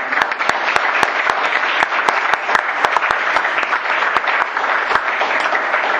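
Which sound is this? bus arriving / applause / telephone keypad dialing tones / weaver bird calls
applause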